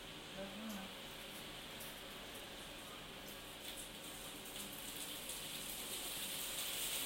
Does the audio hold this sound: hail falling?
yes